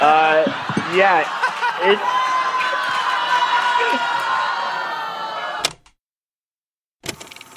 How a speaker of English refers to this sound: I'm going to go ahead and pause and say thank you, Detroit. Booing that guy out of the room because he said I shouldn't be there.